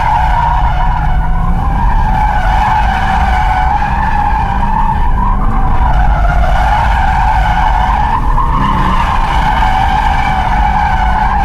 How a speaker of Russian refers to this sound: А вот и слушайте визг. Не, отлично. Это заднеприводный автомобиль, чтобы вы понимали.